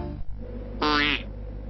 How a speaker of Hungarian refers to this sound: A kocsa hápogáson nem visszhangzik. Hihetetlen, mégis igaz.